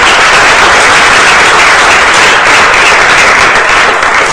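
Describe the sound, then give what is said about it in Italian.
An audience applauds steadily as a deputy mayor is appointed, a loud dense wash of many hands clapping that holds at an even level for the full few seconds without any voices. “Tanto un applauso.”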